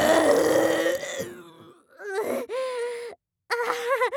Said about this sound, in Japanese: 飲み切った後、いつもの癖でザーメンゲップが出てしまったであります。さっきも言ったのですが、ザージルごっくんした後、必ずゲップが出るんであります。